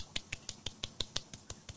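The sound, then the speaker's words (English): A light golf clap for the trans community: about ten soft, crisp claps in a quick, steady rhythm, fairly quiet, with no voices. “A little golf clap.”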